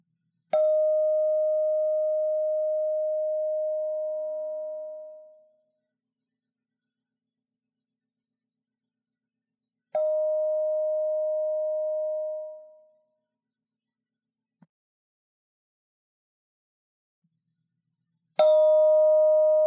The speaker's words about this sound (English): Some might be long tones, some might be short, and some might be in between. So you need to listen very carefully. I'm going to ring the bell three times, and each time raise your hand when you hear the sound stop. I'll do it with you.